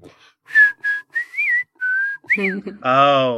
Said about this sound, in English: Then he started whistling the tune.